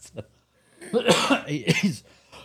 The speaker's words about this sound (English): excuse me. Of course, for podcasts on, I'm coughing again.